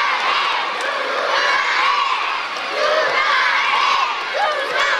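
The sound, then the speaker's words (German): A large crowd of children at a children's music concert shouts and cheers together in a loud, sustained roar as the band first says goodbye on stage, high excited voices blending into a dense wall of noise that swells slightly near the end, calling for an encore. “Spiel mit dem Publikum funktioniert wie bei einer Rockband für Erwachsene und die Kids wissen sogar genau, was man rufen, wenn die Band sich dann das erste Mal auf der Bühne verabschiedet.”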